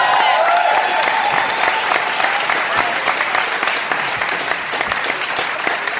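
An audience breaks into sustained, loud applause, a dense wash of many hands clapping steadily for several seconds with a faint murmur of crowd voices underneath, for a man who has just bought an item at an auction.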